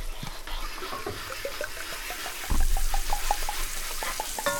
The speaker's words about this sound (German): Und jetzt rührt man das nämlich hier schön mit der Gabel nochmal durch, bis das muss halt, wenn du die Gabel hochnimmst, muss das von selber laufen, wie so eine Soße halt. Ein bisschen dicker.